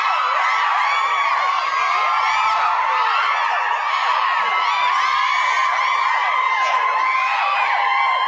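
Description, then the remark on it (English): A crowd-cheering sound effect: a large crowd cheers and whoops continuously, many voices overlapping in a loud, dense roar of excitement that holds steady for the whole stretch without any pause. “Sexy here crowd, sexy crowd cheer.”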